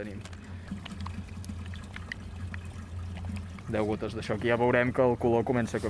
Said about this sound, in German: Ich mische das Wasser jetzt mit den Reagenzien aus diesen zwei Fläschchen. Das eine ist eine Art Lösemittel, das zweite zeigt den Nitratgehalt. Jetzt muss man schütteln.